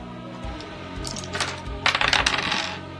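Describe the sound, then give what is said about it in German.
Two ten-sided dice being rolled: small hard objects clatter and tumble across a surface in quick bursts of rattling clicks, with a louder flurry near the end, with no talking. “Was ihr macht, ist 2d10 würfeln.”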